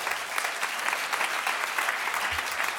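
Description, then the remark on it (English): An audience at a downtown Middle Eastern poetry event applauds itself steadily, a dense, sustained wash of many hands with no pauses and no voices rising above it. “So give yourself a big hand.”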